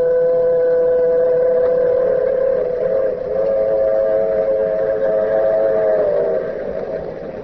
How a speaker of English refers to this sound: Yes, and the train. The shiny metal serpent racing across the flatlands of the Southwest.